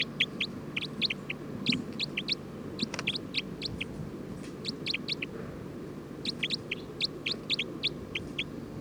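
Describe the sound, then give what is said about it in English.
A bird calls repeatedly in quick bursts of high, sharp notes, grouped in clusters with short pauses between, standing out loudly over a steady low background rumble. “Trying to get bird 310. Stop. Recording bird 306.”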